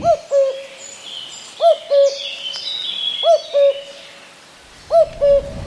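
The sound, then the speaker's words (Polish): A cuckoo calls four times at 9:50 on the clock, each a clear two-note 'cu-ckoo' repeated at an even, unhurried pace, with faint chirping from other birds in the background. “Na zegarze godzina 9:50, więc kukułka dla Wojciecha Piotra Kwiatka powinna 5 minut temu zakukać. Niech zakuka teraz.”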